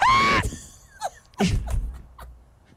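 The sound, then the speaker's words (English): A single short, piercing high-pitched scream bursts out loudly at the start and cuts off abruptly, followed by quieter scattered vocal sounds and faint rustling. “One of the more common vocalizations is often described as a high-pitched scream like a woman being murdered in the woods.”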